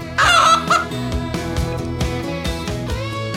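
A chicken clucks in a loud, squawky burst near the start, then quieter clucks follow over a steady musical backing.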